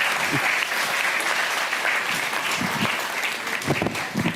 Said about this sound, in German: Das war sehr schön. Danke. Ein Applaus für Axel Petermann. Dankeschön.